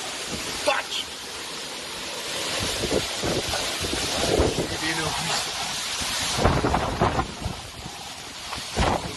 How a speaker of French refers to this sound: Une rafale de vent à 137 km/h a été relevée sous les orages hier soir à Toulouse. Certains se sont aventurés sur leur balcon pour enregistrer ce phénomène très impressionnant.